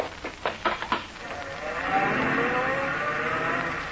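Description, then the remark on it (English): A car roars off at speed, its engine noise swelling into a sustained tire squeal as it takes a corner on a couple of wheels, preceded by a quick series of sharp bursts. “Car took the corner on a couple of wheels.”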